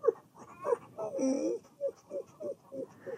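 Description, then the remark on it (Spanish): A voice imitates a small, very thirsty dog with its tongue hanging out, giving a drawn-out whimpering whine followed by a quick, steady series of short voiced panting breaths, moderately loud. “Pobrecito, está jadeando mucho y su lengua le cuelga.”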